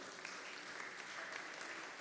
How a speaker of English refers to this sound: Clap your hands for Jesus, somebody.